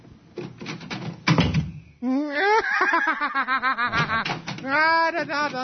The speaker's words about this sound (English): What are you doing with the door? Well, please stop opening and closing the door. Every time I hit the door, you change the personality. Don't do that, please.